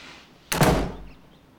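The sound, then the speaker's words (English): A front door shuts with a single firm thud, its low boom fading away over half a second, with nothing else around it and no voices. “gets up quickly, and goes towards the front door.”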